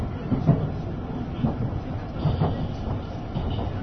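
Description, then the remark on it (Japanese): A JR West limited express train, Shirataka No. 23 bound for Echigo-Yuzawa, runs along the rails after departing about two minutes late, a steady low rumble and hiss with soft, irregular wheel clatter, heard from inside the carriage with no one talking. “ただいま普通列車遅れのため2分ほど遅れて発車いたしました。”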